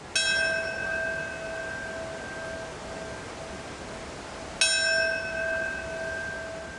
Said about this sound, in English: a bell tolled in New York City this morning.